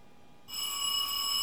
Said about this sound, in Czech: Ježiš, už zase někdo zvoní. Momentík, už tam budu.